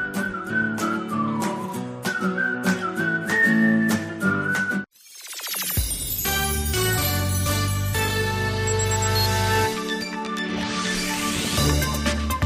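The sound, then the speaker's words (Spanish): A person whistles a cheerful melody over light, plucky percussion for several seconds, then a fuller band of instruments swells in and carries the tune on loudly to the end, in a radio advertisement for Eurocaja Rural pension plans. “Silbar. Modular sonidos al compás de la tranquilidad que te produce tener asegurado tu futuro.”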